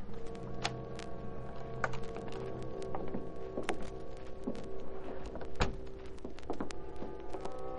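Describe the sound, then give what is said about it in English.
A key scrapes and clicks in a lock, followed by scattered metallic clunks and taps as the rear door at the back of a small store is opened with a special key, fairly quiet over a low steady hum, with fog pouring in from the river. “Nor did he hear the noise at the rear door in back of the store as Britt Reed opened it with his special key.”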